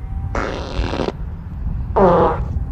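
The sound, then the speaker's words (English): Two loud flatulent blasts from a cow passing gas: a long raspy one lasting nearly a second, then a shorter, more tonal sputter, with no talking around them. “But some certainly escapes out of the rear end too.”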